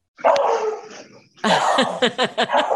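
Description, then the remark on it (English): A dog barks: one drawn-out bark, a short pause, then a rapid burst of several sharp, loud barks in quick succession. No one speaks. “Your dog agrees. Is that an agreement or a disagreement?”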